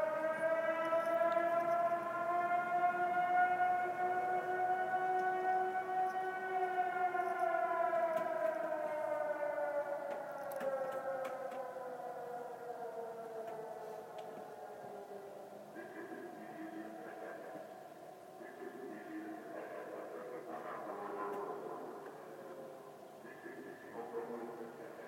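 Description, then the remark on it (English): San Francisco's outdoor emergency warning siren, in its weekly Tuesday noon test, holds a long, steady wailing tone with rich harmonics, then slowly winds down in pitch, with traffic-like rumble and muffled voices beneath it. “So there you have it, the test of the outdoor emergency system in the city of San Francisco every Tuesday at noon.”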